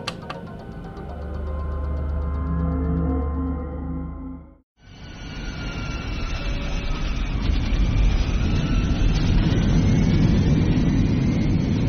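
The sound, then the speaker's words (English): A small plane's engine drones steadily, cuts off abruptly for a moment, then returns as a louder, rougher roar with whining overtones that keeps going to the end. “Also, we need a long-haul plane. This is great, but not for long distances.”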